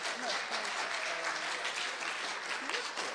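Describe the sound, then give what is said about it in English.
Steady applause from a meeting audience clapping instead of voting yays or nays on a resolution to thank someone for a year's work: a dense wash of many hands clapping at once, fairly loud and continuous, with faint voices murmuring underneath. “I suggest rather than yays or nays, just clap.”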